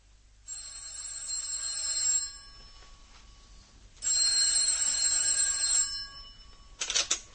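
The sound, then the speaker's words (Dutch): A telephone rings in two long bursts of bright, tonal trilling separated by a short pause, fairly loud, with a brief clatter at the end as if the receiver is lifted. “Ik doezelde net zo'n beetje weg toen de telefoon ging.”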